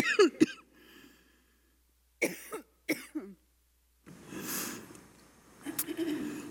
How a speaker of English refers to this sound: I'm going to cough.